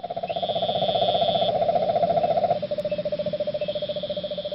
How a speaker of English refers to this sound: Well, South Florida is experiencing a bit of an infestation of these poisonous toads, sometimes called cane toads. This is what they sound like.